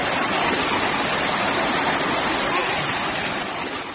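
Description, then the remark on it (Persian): Heavy, steady rush of falling water, loud, a dense continuous roar from a 25-kilowatt small hydroelectric plant built by residents of Charkuh village, Isfara, holding constant throughout with no voices. “صدای ریزش آب و کار نیروگاه خودساختی چارکوه را میشنیدید.”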